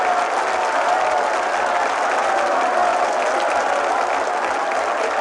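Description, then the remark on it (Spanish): A large crowd of Indians packed into a big tent stands and applauds steadily and loudly, the dense clapping continuous throughout with a faint murmur of voices mixed in. “Los indios que abarrotan la gran carpa se ponen en pie y aplauden.”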